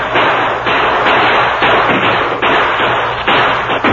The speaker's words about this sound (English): He's trying to reach the wagon before it gets to the gate. The Indians are trying to stop him with gunfire. They're not close enough for a good shot.